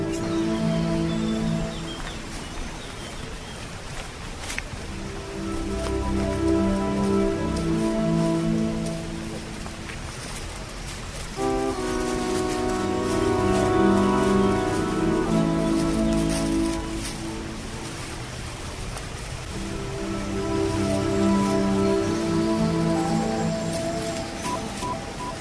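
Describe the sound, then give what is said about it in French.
A river flows with a steady, continuous rushing and splashing, fairly loud and unbroken for the whole stretch, with faint tonal murmurs running underneath and no clear speech. The river runs past Les Forges, a former metallurgical site linked to Combes-Laval and Saint-Laurent, during a guided walk. “Approchez-vous parce que c'est avec le bruit de la rivière, c'est pas facile d'entendre.”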